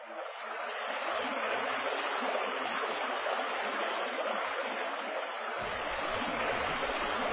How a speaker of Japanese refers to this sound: 彼らの前に、太き犀川の流れが道を阻む。 しかし川を渡ればそこが善光寺。